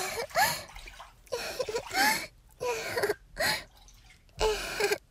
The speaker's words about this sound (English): Oh, yeah? Splash fight.